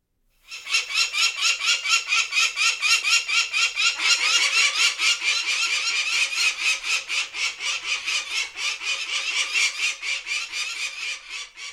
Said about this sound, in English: Any guesses as to it's a bird? I'll give you that much. I think it may be a falcon, which is an uncommon one, but becoming more common, especially in the urban areas